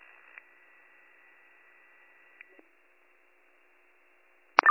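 Dispatch paging tones being dropped repeatedly over a county dispatch radio: a steady, high-pitched electronic tone holds through light static, broken by a couple of soft clicks, then a sudden loud burst of tone at the end. No one speaks.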